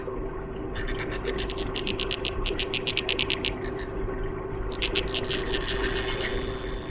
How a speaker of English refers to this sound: That is a very small fish, the Danionella cerebrum, transparent, just over a centimetre long, and it could just be the loudest for its size ever discovered. It apparently can produce 140 decibels, as loud as a gunshot or jackhammer.